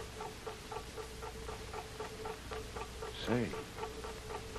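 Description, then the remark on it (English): A big clock ticks steadily at a quick, even pace over a low droning hum, heard aboard a boat, coming from behind a wall toward the front of the boat, with a brief voice-like sound breaking in near the end. “That big clock, Tuan, like I tell you.”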